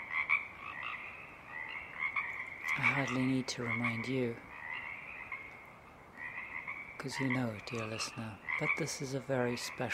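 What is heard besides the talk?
frog chorus croaking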